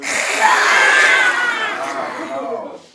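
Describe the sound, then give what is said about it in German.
About 10 to 12 children roar together like a lion during a story reading in the newly opened library of the Koggenweg primary school in Lübeck's Bunte Kuh district, a loud sustained burst of voices imitating the animal that holds for a couple of seconds, then fades out. “10, 12 Kinder brüllen fröhlich mit.”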